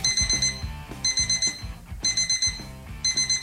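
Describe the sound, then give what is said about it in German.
An alarm clock rings alone in insistent bursts, quick runs of bright, high electronic beeps repeating about once a second, four rounds in all, loud and steady. “Auch in ganz Deutschland wird diese Dösel-Taste, sprich Snooze-Taste, immer beliebter.”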